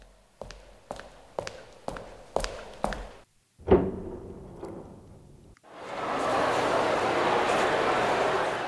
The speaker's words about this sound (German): Also ich habe gehört, da waren Schritte, da ging eine Tür auf und dann gibt es erstmal Lärm.